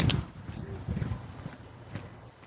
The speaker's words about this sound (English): Roofers working on Sunday?